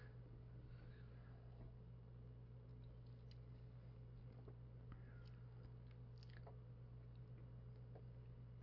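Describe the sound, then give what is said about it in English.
Quiet sipping of water, with soft mouth clicks and a faint swallow, over a steady low electrical hum and no talking. “Could use a little water here.”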